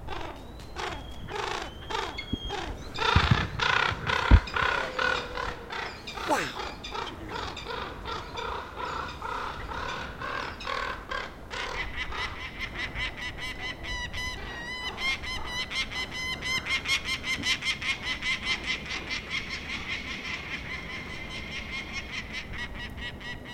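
Peregrine falcons call right overhead in harsh, rapid, repeated cries, a male yelling at a raven as they gang up on it, going on almost without pause, fairly loud, with no talking.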